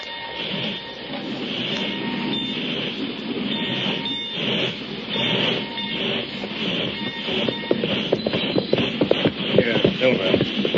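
A freight train bound for Springville rolls steadily along the rails, its dense rumble and rhythmic clatter of wheels over track joints building toward the end, loud with no voices.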